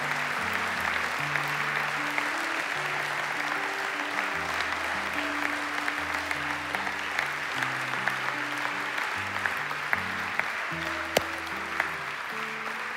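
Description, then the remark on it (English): An audience claps steadily and continuously, a dense unbroken wash of applause, while low sustained keyboard chords shift underneath throughout. “Don't stop clapping yet.”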